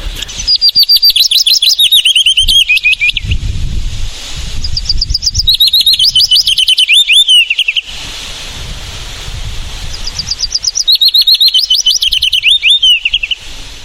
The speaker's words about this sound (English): Well, my favourite bird song is actually the willow warbler, and this is a warbler that comes in for the summer from Africa. And when I hear my first willow warbler, the hairs on the back of my neck stand on end, I think it's absolutely superb.